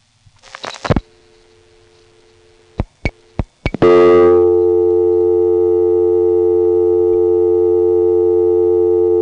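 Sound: telephone dial tone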